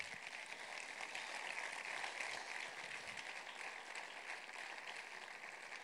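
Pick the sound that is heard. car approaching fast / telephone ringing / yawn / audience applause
audience applause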